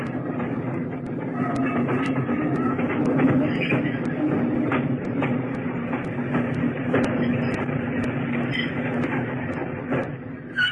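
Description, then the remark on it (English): A heavy freight train travelling between King Williamstown and Berlin rumbles as it slows to a crawl, a dense, steady roar with scattered metallic clanks and rattling wheel clicks running through it, holding a constant loudness throughout. “brought the heavy train to a crawl, and slowly the irresistible force moved towards the immovable object.”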